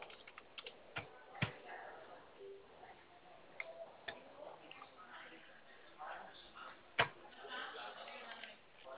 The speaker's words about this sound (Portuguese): Só um minutinho, estou pegando a caneta.